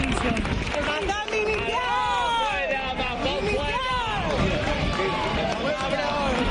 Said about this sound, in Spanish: Aplausos a los Reyes mezclados con frases de este tipo en Chiva al jefe del Consejo.